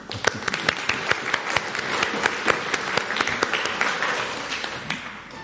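A group claps for about five seconds for someone who has just painted a picture, dense overlapping hand claps with sharp bright transients, steady and moderately loud before thinning toward the end. No one speaks over it.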